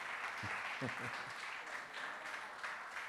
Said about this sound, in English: And therefore, okay, you clap when you finish.